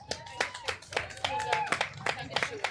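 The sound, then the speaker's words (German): A small audience applauds a panelist who co-organizes the Fridays for Future climate strike in Leipzig, with distinct, uneven hand claps, moderately loud, continuing steadily through the moment with some voices murmuring underneath. “Ich würde sagen, bitte nochmal Applaus”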